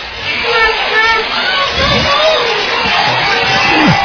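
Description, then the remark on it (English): A large football stadium crowd chants "defense" and comes to its feet as the Vikings have the Wildcats backed up at their goal line on second and 24, a dense, steady roar of many voices that fills the whole clip at high volume, swelling slightly toward the end. “You hear the crowd chanting, defense, now they come to their feet.”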